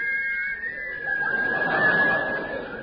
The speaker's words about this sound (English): They have agreed in conjunction with the NUR to play the theme music of... The Yeti!